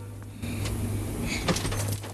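The back passenger door of a car is yanked open with a sharp metallic clunk and scrape, followed by a rattling, creaking swing over a low steady hum, with no voices.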